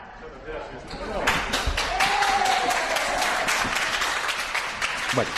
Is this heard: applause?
yes